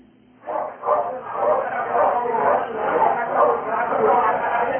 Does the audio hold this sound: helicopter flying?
no